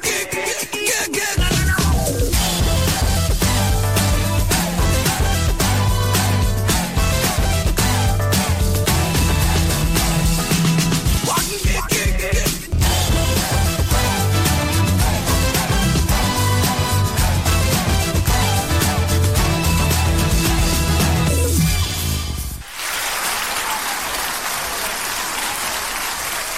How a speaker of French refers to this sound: Les applaudissements pour vous souhaiter la bienvenue.